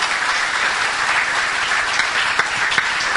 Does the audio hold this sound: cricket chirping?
no